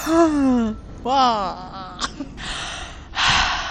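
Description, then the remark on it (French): Someone yawns, two drawn-out voiced yawns sliding down in pitch, followed by a few breathy exhales and a final airy sigh. “Voilà, un bon bâillement.”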